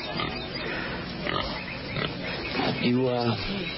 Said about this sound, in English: That's your pig.